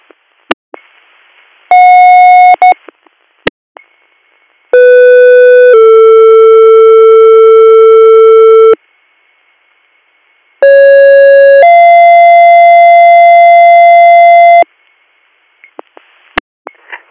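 Guthrie EMS dispatch alert tones for a call to 47 Front Street for a male patient with severe abdominal pain: a brief beep, then two paired sequences, each a short steady tone sliding into a longer, lower held tone, all loud and buzzy, with radio clicks at the edges.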